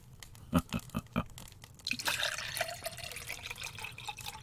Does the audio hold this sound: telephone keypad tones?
no